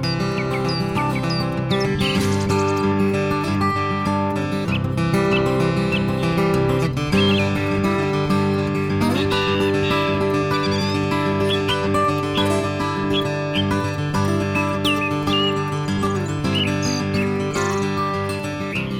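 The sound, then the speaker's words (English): A song thrush, also called a throstle, sings in bright, repeated chirping phrases, layered over steady instrumental music played in a studio that fills the background throughout. “accompanied by the sounds of the song thrush, or the throstle, as they call it in England,”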